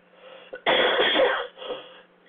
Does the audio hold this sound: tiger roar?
no